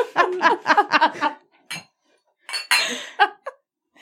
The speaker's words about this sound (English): Cheers. Let's clink.